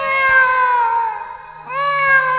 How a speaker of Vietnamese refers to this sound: Tiếng mèo kêu sao mà nó não ruột quá.